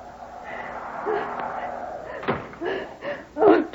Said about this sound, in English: Naturally, we couldn't hear him coming through the snow. Oh, there's the door.